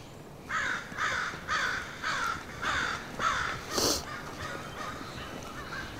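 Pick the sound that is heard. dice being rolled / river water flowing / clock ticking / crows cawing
crows cawing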